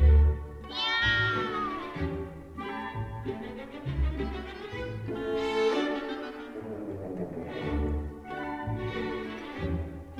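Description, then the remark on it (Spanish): Repeated drawn-out cat meows in a zarzuela, rising and falling in pitch, sound fairly loud over a steady rhythmic low thumping beneath them throughout. “¿Pero qué ha mayado? ¿Pues qué me ha pasado? Que has cogido el gato, soy galichao.”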